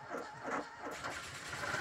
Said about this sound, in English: Being notoriously unreliable, even with the right key, as Rolt struggled to turn over the ignition of the Vauxhall 11, with horns hooting, fists shaking, and distant police sirens growing ever nearer